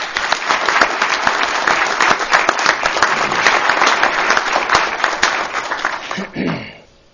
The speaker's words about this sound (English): And I'd like to quickly applaud any of you here that are military members, and I'd like everyone else to applaud the family members one more time.